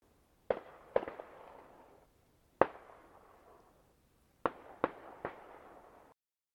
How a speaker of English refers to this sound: That popping sound out on the street might have been gunfire, but Sam continued to hold the little penlight from her bag steady.